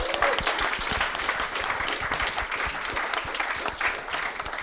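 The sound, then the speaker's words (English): An audience applauds steadily for two athletes from a mixed 4x100 metres relay team, a dense, even patter of many hands clapping at once, sustained at a fairly loud level for several seconds without pause. “round of applause for you guys as well.”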